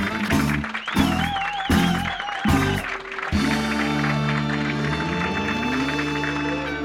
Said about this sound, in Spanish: Con un día, digamos, un poco frío, pero el calor humano está presente. Fuerte el aplauso.